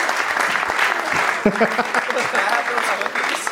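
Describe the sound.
Steady audience applause at a live show as a performer leaves the stage, a dense wash of many hands clapping at an even loudness for a few seconds, with a few voices briefly rising over it near the middle.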